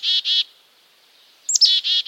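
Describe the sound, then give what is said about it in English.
A black-capped chickadee gives its chick-a-dee call: two buzzy, harsh dee notes, a short pause, then quick high chick-a notes followed by more raspy dee-dee notes, clear and alone. “The chickadee call serves different purposes in different contexts and is but one of a dozen in the bird's repertoire.”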